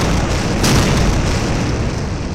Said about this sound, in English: Impact! Flame and smoke erupt, but the blast does nothing but scorch the grass.